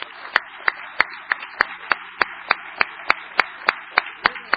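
Audience applause for a woman asked to stand: a dense, steady wash of clapping with sharper, evenly spaced claps standing out about three times a second, sustained throughout without any talking.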